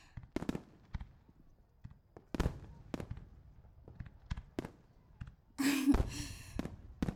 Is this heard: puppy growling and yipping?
no